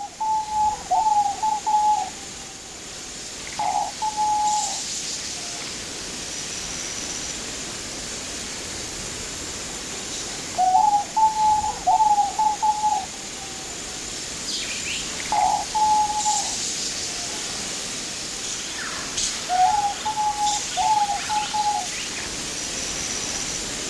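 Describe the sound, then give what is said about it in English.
A diamond dove gives soft, low coos repeating in short pulsed phrases every few seconds, clear over a steady hiss of background noise, with no talking. “And I understand this is the diamond dove.”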